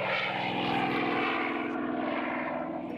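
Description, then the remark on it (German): The small propeller plane D-Ente, with Michael Jimek at the controls, roars at full power on a December day, its engine drone steady and loud with a buzzing harmonic whine as it takes off into the air. No voices. “Doch alle Mühen sind an diesem Dezembertag vergessen, als sich die D-Ente mit Michael Jimek am Steuer in die Luft erhebt.”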